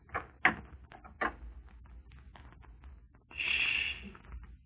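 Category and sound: household object, knocking on a door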